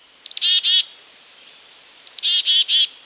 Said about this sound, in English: Few backyard birds are as beloved as the black-capped chickadee. The boldly patterned chickadee is perky, trusting, and it even seems to introduce itself to us by calling out its name.